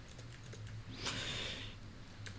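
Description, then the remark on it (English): Light, scattered clicks of typing on a computer keyboard as someone types the text "You shall all die, ha ha ha", a few quick taps at the start and end, with a brief hissy burst in the middle over a steady low hum; no one speaks. “You shall all die, ha ha ha ha ha ha ha, is basically what I put in there.”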